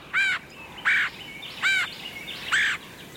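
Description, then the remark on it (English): Four loud, harsh bird calls repeat at an even pace, each a short raspy burst with rich harmonics, with brief quiet gaps between them and no talking. It sounds like a red-headed woodpecker calling. “Red-headed woodpeckers are one of only a few woodpecker species known to store food for later.”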